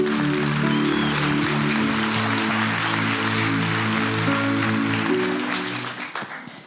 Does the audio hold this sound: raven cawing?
no